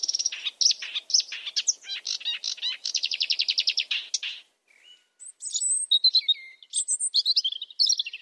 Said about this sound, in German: Nachts ein Sumpfrohrsänger ist auch sehr schön.